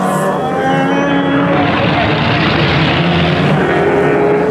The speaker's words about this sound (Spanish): Lotus, Ferraris, Porsches, los más modernos coches de carrera, joyas de la mecánica automotriz en competencia deportiva.